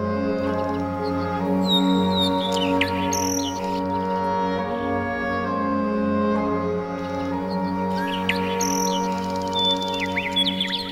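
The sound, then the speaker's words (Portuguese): Birds sing in two short bursts of bright chirps and whistles, one early and one near the end, set over a steady, sustained musical drone with no talking. “Ouça o canto dos pássaros e procure harmonizar-se.”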